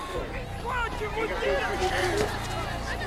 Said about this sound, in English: A tank looms over the heaving crowds at the railway station. The travelers get separated in the seething throng.